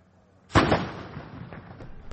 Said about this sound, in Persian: توپخانه ارتش عراق مواضع گروه حکومت اسلامی را در داخل موسل هدف می گیرد. این منطقه حدود 900 متر از مرزهای اداری موسل فاصله دارد.